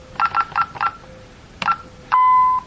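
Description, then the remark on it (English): Alarm keypad buttons beep as a code is entered to bypass the open front door, including code 6 and pound: four quick, evenly spaced electronic beeps, a pause, one more beep, then a longer steady tone. No one speaks. “We do code 6 and pound.”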